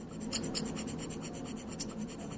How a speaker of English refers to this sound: All right, so these little scraper tools, what do they sound like?